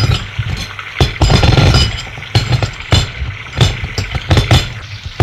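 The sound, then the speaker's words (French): Dishes clink and knock together in a sink as they are washed in hot water with a few drops of dish soap, irregular sharp bright clatters over a low rumble of running water, some taps light and others louder. “Elle met l'eau chaude, quelques gouttes de liquide et fait la vaisselle.”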